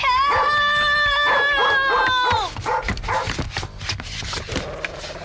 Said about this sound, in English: Let go of my sock! Stop it! Let go, you dumb dog! Let go!